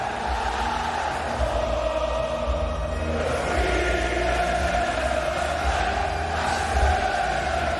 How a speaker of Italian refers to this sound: Dopo il successo dell'Inno d'Italia, eccolo l'inno scozzese. Ecco, Flanta, Scotland. Vero, senti come partecipa. Senti.